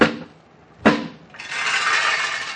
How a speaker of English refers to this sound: Now, let me see. How'd the boss say to... Oh, yeah. Set the handle. Then thump it twice.